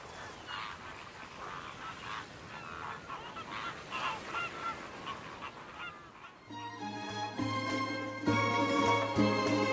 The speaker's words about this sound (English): We have a lot of guests. I'm talking about the migrating birds.